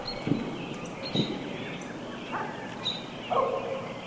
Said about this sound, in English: And the birds are really singing.